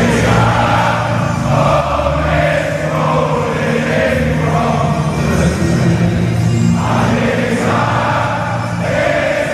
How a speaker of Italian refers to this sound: Questa è la canzone che i tifosi del Nottingham Forest, la squadra di calcio, cantano ogni volta che vanno allo stadio.